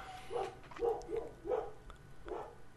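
Dogs bark in a quick series of about five sharp woofs, spaced unevenly, moderately loud over a low background hum.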